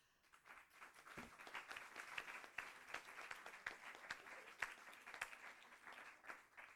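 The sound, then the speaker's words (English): A crowd breaks into sustained applause for the speakers after their talks, many hands clapping in a dense, steady patter that stays fairly even throughout, with no voices standing out. “I think they have all earned a very big applause.”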